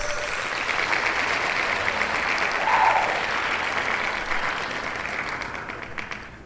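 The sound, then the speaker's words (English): A cheering and applause sound effect: a crowd applauds and cheers steadily, dense clapping forming a continuous wash of noise with a brief whistle or shout rising midway, then tapering slightly at the end. “Where's my cheer?”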